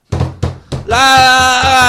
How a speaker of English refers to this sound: Anyone can do that. I'm banging on the drum.